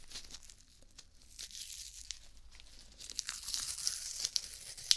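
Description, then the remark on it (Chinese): Crackly tearing and peeling of medical adhesive tape used after an injection, applied to an arm; a steady papery rasp that grows louder and sharper toward the end, with a few crisp snaps. No one speaks. “好，那接下来呢，再准备一下打完针之后贴到你手上的胶带。”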